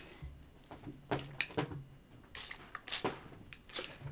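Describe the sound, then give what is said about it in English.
A spray bottle squirts water at a cat in several short, sharp hissing spritzes, irregularly spaced, with no one talking. “Sorry, that's me spraying.”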